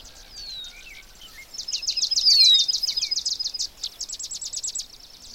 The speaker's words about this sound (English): I can also hear several other old birds that are related to wetlands. And one is an alder flycatcher, and another one is a swamp sparrow.